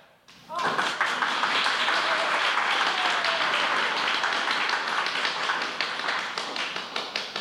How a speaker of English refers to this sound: Okay, now our applause sign is typical of shows that had live audiences. So when it lights up, you applaud, and when it goes off, you stop applauding.